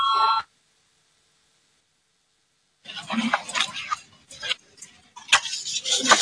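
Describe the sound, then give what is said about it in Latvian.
A loud electric parliamentary voting bell rings briefly at the start as a vote is called and cuts off, followed by a few seconds of silence and then a stretch of busy clicking and clattering. “Lūdzu zvanu, balsosim par otro atbildīgās komisijas priekšlikumu.”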